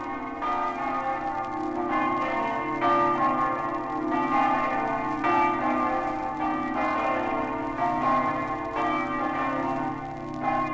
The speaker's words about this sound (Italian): Dallo snello e elegante campanile alto 70 metri, la campana del Duomo di Buia sgrana i suoi festosi rintocchi per salutare gli emigrati friulani.